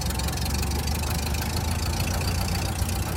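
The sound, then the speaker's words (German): A vintage Ford car engine of 20 horsepower, of the kind built in Berlin nearly 100 years ago, runs steadily, a loud, continuous low rumble with a rapid chugging pulse and no voices over it. “So wird es vor fast 100 Jahren geklungen haben, wenn die Ford T2 aus Berliner Produktion mit ihren 20 PS-Motoren die Lagerhalle am Westhafen verlassen haben.”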